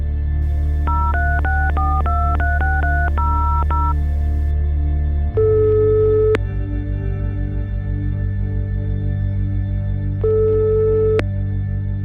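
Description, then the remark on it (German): A rapid run of about ten telephone keypad beeps, then a low line hum with two long ringing tones several seconds apart, as a call to a person living near San Francisco connects and rings. No one speaks. “Solange wir auf Antworten aus Mosambik warten, telefoniere ich”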